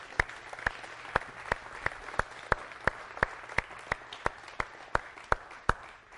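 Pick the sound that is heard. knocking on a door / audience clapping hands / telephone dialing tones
audience clapping hands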